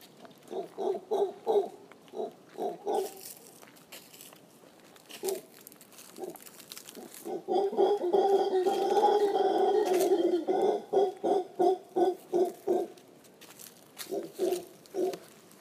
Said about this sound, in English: and really exploring the sense of moving through a soundscape and apparently the territory of a bunch of monkeys, a bunch of howlers.